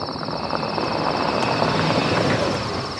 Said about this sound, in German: Beinahe wären alle wieder eingeschlafen, als sie lautes Motorengeräusch aufschreckte.